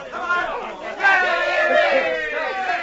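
A crowd of many voices chatters and murmurs all at once, steady, swelling a little louder after the first second, with no single speaker standing out.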